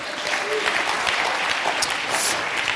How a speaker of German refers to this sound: Hey, Applaus für alle Ehefrauen, alle Ehemänner. Let's go.